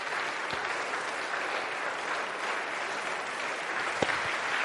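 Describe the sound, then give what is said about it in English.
An audience applauds steadily to welcome a guest coming up to join the host, a dense, even wash of many hands clapping at constant loudness throughout, with a couple of sharper claps standing out near the end. No one speaks. “Shall we give him a warm welcome as he comes and joins me up here.”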